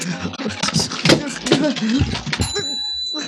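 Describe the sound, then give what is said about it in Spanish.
A telephone number being dialed after the receiver is lifted: a quick run of clattering clicks and handling noises, then a brief high bell-like ring that lingers and fades. “Haciendo esfuerzos sobrehumanos, ha extendido un brazo para alcanzar el teléfono. Descuelga el auricular. Empieza a marcar.”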